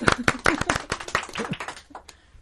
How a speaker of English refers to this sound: Clap effect. Yeah!